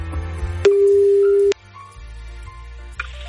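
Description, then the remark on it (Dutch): A single steady electronic ringback tone from an outgoing phone call to a listener's phone sounds for about a second, clear and fairly loud, followed by quieter background noise with no talking. “We gaan bellen. Als jouw telefoon nu overgaat, dan weet je wat je moet doen.”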